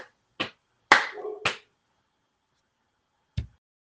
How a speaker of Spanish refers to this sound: Si se animan, puede ser golpeando sobre las piernas y haciendo palmas. Este ritmo de acompañamiento y a decir esta hermosa poesía.